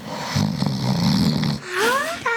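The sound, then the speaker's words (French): A single snore: a raspy, rattling rumble on the inhale, followed by a high, rising whistle on the exhale. No voices. “Et non, c'est un ronflement.”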